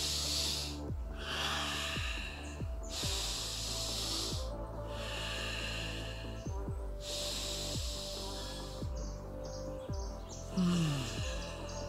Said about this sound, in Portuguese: Três respiradas fundas, já tá com outro tipo de pensamento, já tá com outro tipo de sentimento.